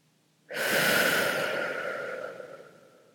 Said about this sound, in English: And now just imagine yourself breathing in as deeply as possible and just feeling the resistance to breath. And then more slowly breathing it out.